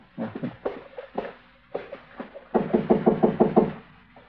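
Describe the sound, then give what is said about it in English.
Knocking on a door in a few short clusters, then a louder, faster run of about eight firm raps near the end, solid with no talking. “All right, go ahead and knock. Let's get clear before the door opens up.”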